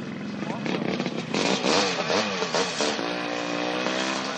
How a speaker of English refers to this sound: On this Saturday at Willow Springs, the scooter racers had to share the track with a bigger field of young gun motorcycle racers. Well, the motorcycles took off first, and when they got halfway around the track, the scooters got the green flag.